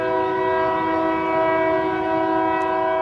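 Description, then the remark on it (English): A loud, sustained train horn blares steadily throughout, its stacked harmonic tones held without a break over the low rumble of a passing train on the railroad beside Freedom Monument Sculpture Park on the Alabama River in Montgomery, Alabama. “Stevenson walks through Freedom Monument Sculpture Park, wedged between the railroad and the banks of the Alabama River.”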